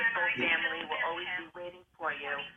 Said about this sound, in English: oh, you got your radio on. Somebody's got their radio on. Yeah, I think she does. Yeah.